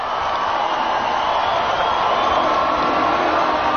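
A vast outdoor crowd of 65,000 people singing together in London's Hyde Park on July 1st while waiting for a concert to start, thousands of voices merging into a dense, steady roar that stays loud and unbroken throughout.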